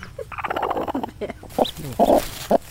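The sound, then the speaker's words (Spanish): Hens cluck and murmur in a series of short, throaty bursts at their nests, where two hens are brooding and chicks are hatching, with a thin high peep or two from chicks mixed in, over a steady background hiss. “Más pollitos que están saliendo por allí en los nidos. ¿Cuántas gallinas tiene echadas? Dos.”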